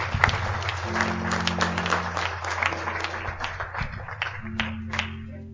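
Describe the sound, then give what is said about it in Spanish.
A church audience breaks into sustained applause offered to the Lord after singing, a dense wash of many hands clapping steadily, with a low sustained organ or keyboard tone humming underneath throughout. “Un aplauso al Señor, se lo merece todo.”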